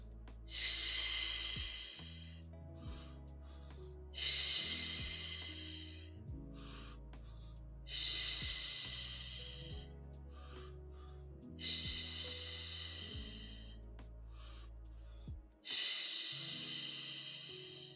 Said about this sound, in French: Et ensuite, expire par la bouche en faisant un son.